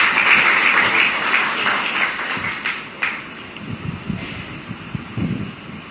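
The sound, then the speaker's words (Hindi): A crowd applauds those who raised their hands, with dense, steady clapping that holds strong for several seconds, then thins out and grows softer, with scattered claps trailing off toward the end. “इस जन्म में बाबा के बनने के बाद वो हाथ खड़ा करो, बहुत अच्छा, तालियां बजानी चाहिए उनके लिए।”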